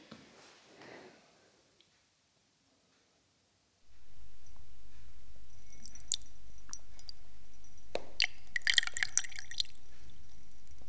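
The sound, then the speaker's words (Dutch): After a short quiet pause, a woman urinates in a steady trickle into a glass, with bright splashing and dripping that grows busier toward the end as the glass fills. “plast heel bescheiden. Niet zoals een bouwvakker”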